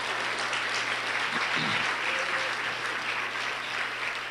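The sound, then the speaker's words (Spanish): An audience applauds the Lord, King of Kings, steadily, a dense wash of many hands clapping at once that holds at an even level throughout, with a faint voice briefly showing through the noise. “Algo, una vida también aceptó al Señor y eso le damos un aplauso a Rey de Reyes, Señor de Señor.”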